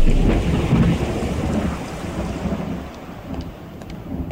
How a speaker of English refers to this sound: It was raining and I was in a hurry